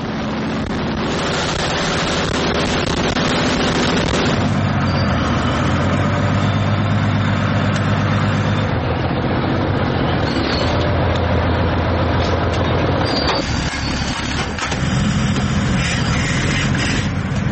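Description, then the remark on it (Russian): The engine of a Ukrainian 45-ton self-propelled artillery gun rumbles loudly and steadily as it races to a firing position raising a wall of dust, on the Pokrovsk front in Ukraine; a deep continuous roar with grinding, clattering texture and no voices. “45-тонна артустановка здіймає стіну пилу.”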